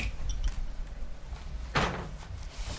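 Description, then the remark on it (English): Muffled handling noise with a low rumble, then a sharp thump about halfway through as a microphone is moved toward a speaker during a committee presentation, followed by softer scraping bumps. “Let me just move the mic closer to me.”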